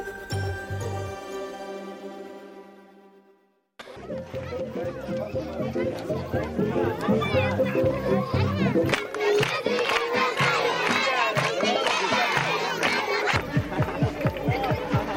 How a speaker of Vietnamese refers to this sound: Tiếng trẻ em vui chơi ca hát là một âm thanh vui tươi có tính chất phổ quát ở tất cả mọi nơi. Những âm thanh vừa rồi là từ các trẻ em di tản tại dải Gaza khi được xem các thành viên của một nhóm xiếc biểu diễn giúp vui cho các em.